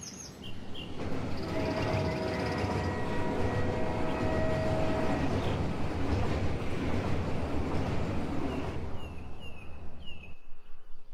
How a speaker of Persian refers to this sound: توی یه جنگل سرسبز و زیبا، عمو هزار پا یه قطار بزرگ داشت. یه قطار با واگن‌ها و کوپه‌های زیاد که همه ی حیوانای جنگل میتونستن سوار بشن.